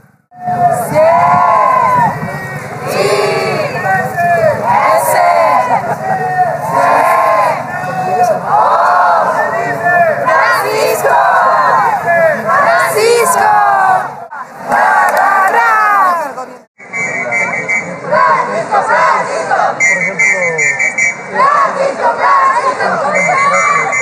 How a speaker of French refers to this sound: L'animation est plus forte maintenant. On entend de plus en plus de chants. Ici, on épelle le nom du pape en espagnol pour l'acclamer.